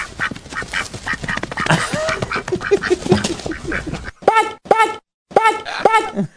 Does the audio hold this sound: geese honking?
yes